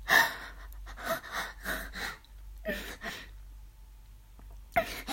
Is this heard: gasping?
yes